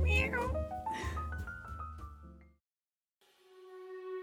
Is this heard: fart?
no